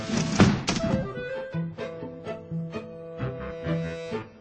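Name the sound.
banging on a window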